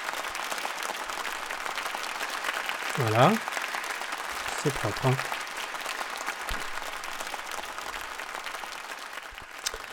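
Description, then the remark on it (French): A steady wash of audience applause fills the whole stretch, dense and even, while a voice briefly talks over it a couple of times. “Là, c'est vraiment des vrais applaudissements, hein.”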